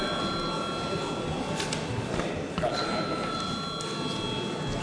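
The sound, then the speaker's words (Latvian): A parliament voting bell rings continuously for about five seconds, called for before deputies vote on a bill in its third reading. A loud, steady metallic clatter with sustained high ringing tones and no pauses or voices. “Līdz ar to visu priekšlikumu ir izskatīt, aicinu nobalsot par likumprojektu 3. lasījumā. Lūdzu zvanu.”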